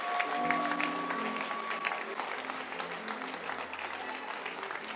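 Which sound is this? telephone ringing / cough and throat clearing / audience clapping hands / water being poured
audience clapping hands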